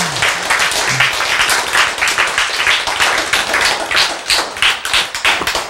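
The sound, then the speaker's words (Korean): A church audience claps steadily for several seconds during a sermon, a dense, loud patter of many hands with no pause, holding its level throughout before tapering slightly at the end. “그래서 이제 11조를 이렇게 여러분이 이해를 하면 박수가 나와야 안 나와.”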